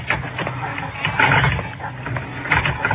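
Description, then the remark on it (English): An apartment-house elevator motor clicks and whirs after a button is pushed while the door strains but stays open, with a rough, grinding mechanical drone; the elevator does not move. Irregular clicks and swells sit over a steady low rumble for about three seconds. “And the motor clicked and the door strained, but stayed open.”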